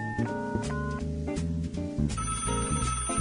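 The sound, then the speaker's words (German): A telephone ringtone plays on its own, a bright, steady electronic melody of sustained tonal notes that shifts pitch in short repeating phrases, fairly loud throughout. “Na, wer ruft denn da an?”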